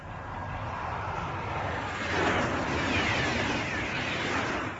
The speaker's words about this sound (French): Entre Courtalin et Tours, ce matin, le TGV Atlantique a de nouveau battu son record du monde de vitesse à 515 km/h 300. Première évidence, un train à ce train-là, ça fait un bruit d'avion.